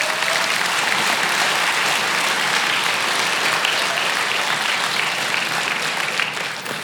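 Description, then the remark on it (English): A large audience claps steadily for several seconds in thanks to the medical community, a dense, loud wash of applause that holds even throughout before starting to taper off at the very end. “Can we just say thanks to the medical community with some applause?”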